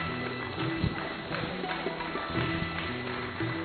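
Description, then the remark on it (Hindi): An audience claps loudly and steadily for guests, a dense, continuous patter of many hands with a slightly rhythmic, tapping quality that holds at an even level throughout. “जोरदार तालियां बजाते रहिए।”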